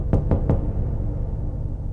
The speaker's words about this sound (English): And then there was a knock on my door. I hid behind my desk, and I didn't even know if I had locked the door or not.